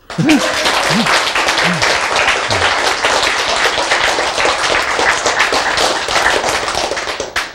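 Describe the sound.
Steady, dense applause from an audience fills the whole stretch, many hands clapping in a continuous loud patter, with a brief voice or two audible at the very start.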